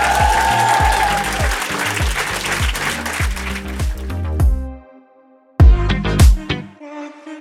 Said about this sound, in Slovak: Ďakujeme ti, tento potlesk je tvoj a bude trvať, až kým neotancuješ.